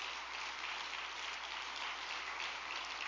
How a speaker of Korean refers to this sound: 우리 40일 수련생들과 영성 아카데미 수련생들에게도 감사와 격려의 박수를 좀 부탁드리겠습니다.